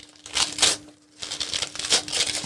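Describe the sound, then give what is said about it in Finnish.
Paper crinkling and rustling as a package containing a bath bomb is torn open, in two bursts separated by a brief pause, with a faint steady hum underneath. “mutta sä voit avata sen.”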